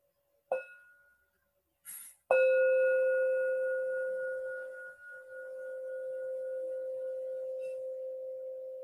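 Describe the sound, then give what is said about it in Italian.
A bell is tapped lightly once, then struck firmly to mark the start of a reading; its clear, steady tone rings on and slowly fades over several seconds, with no one speaking. “Sentiremo un suono di campana e poi comincerò la lettura.”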